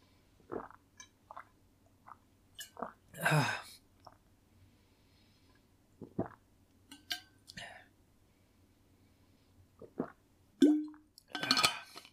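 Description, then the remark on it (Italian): Drinking noises of a person drinking water: a few small sips and wet swallows with soft mouth clicks and breaths, spaced irregularly amid quiet, ending with a couple of louder gulps. “Abbiamo un po' d'acqua.”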